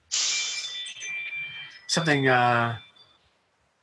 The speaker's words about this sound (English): Oh, that was my, I have a Ring doorbell, and that was the motion detector going off. So there's a good chance that like the UPS or FedEx was driving by my driveway, and then the Ring doorbell picked it up,